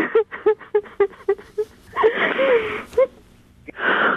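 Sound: woman crying and sobbing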